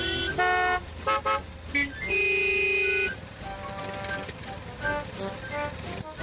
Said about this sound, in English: I think this is a job for Betsy. Grandpa Pig is driving his motor mower over to Peppa's house.